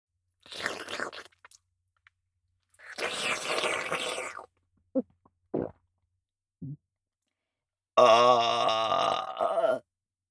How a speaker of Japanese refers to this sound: ケツ穴にホーリーゲップ、ぶち込んでおきましたわ。